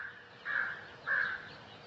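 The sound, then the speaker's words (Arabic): Two harsh, drawn-out crow caws sound one after the other with a short gap between them, fairly clear over a faint background hiss, with no one talking. “دي برضو غربان.”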